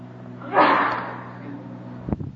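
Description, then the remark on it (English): A single sneeze bursts out sharply and trails off over about a second against a low steady hum, followed by a few brief, clipped noises. “Bless you.”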